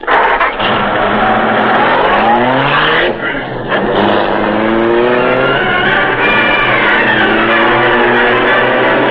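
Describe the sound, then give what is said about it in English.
A car engine revs loudly, its pitch climbing through several gear-like sweeps as a man drives the car away from a driveway, steady for the whole stretch with a brief dip partway through. “He's going toward a car in the driveway.”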